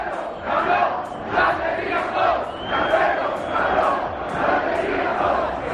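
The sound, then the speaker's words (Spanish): At Riazor stadium, a large crowd chants in protest in unison at the board of directors chaired by Paco Zas and sporting director Carmelo del Pozo, loud and steady, the massed voices rising and falling in a regular rhythmic beat of repeated shouted phrases with no other sound. “Riazor explotó y puso el foco en el Consejo de Administración que preside Paco Zas y en el director deportivo Carmelo del Pozo.”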